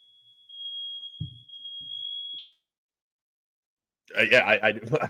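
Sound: smoke alarm beeping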